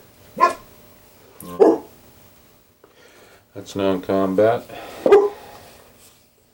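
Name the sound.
dog barking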